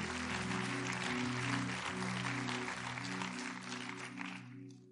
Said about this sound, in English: Can we clap our hands together one more time?